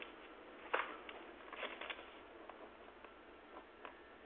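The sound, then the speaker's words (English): A pen scratches across paper while writing, in short, irregular strokes, fairly quiet, with brief scratchy bursts scattered over a faint background hiss and no talking. “Let me write that down.”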